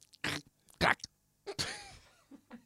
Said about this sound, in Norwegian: Tygg en bit av et knekkebrød.